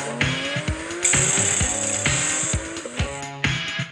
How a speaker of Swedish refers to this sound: Sen har jag åkt både Agera och Agera R och RS. Och det är, alltså, det är brutala bilar. Ja. Det är full gas och hör du liksom hur traction controlen går in konstant. Så att, det är skithäftigt.